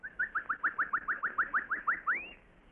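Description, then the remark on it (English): A bird call used as a signal, of a bird not found in the jungle where it is given, about a dozen quick, evenly spaced high chirps in a rapid trill, finishing with one longer note that sweeps upward, heard on its own with no talking. “The bird call? Yes.”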